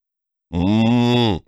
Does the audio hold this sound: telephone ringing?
no